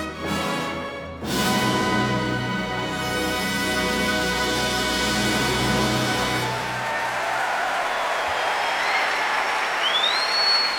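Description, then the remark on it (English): At the Proms, conductor John Wilson and his orchestra hold a final sustained chord, then a large concert audience bursts into loud, dense applause, with a few whistles rising above the clapping near the end. “here at the Proms, and applause from conductor John Wilson and his orchestra.”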